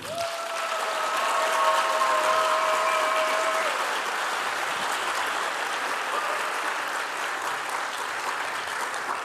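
An audience on a game show claps steadily for a player in a dense, crackling wash of applause lasting the whole stretch, with a faint high whistle-like tone sounding through the first few seconds.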